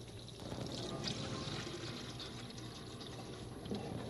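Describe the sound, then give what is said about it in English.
Water pours steadily into a container in a kitchen for about four seconds to water a houseplant, a continuous splashing, gurgling stream with no one speaking. “Now, first I have to just add 4 drops to the water when watering. Okay. First the water.”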